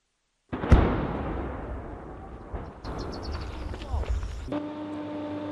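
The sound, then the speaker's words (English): A sudden heavy boom from explosions in Ukraine's southeastern Zaporizhzhia region rolls out into a long rumbling decay, followed by more muffled thuds and scattered clatter, with a steady engine hum emerging near the end, while agricultural machines keep driving towards farmers' fields. “Despite the sound of explosions thundering in Ukraine's southeastern Zaporizhzhia region, agriculture machines keep driving towards the fields belonging to farmers.”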